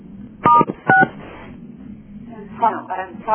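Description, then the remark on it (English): Two short, bright telephone keypad tones beep in quick succession while the caller tries to cancel star 6 on the call. Each is a steady dual-pitched burst, followed by muffled voices talking over a phone line. “Wait, how do I cancel the star 6 again?”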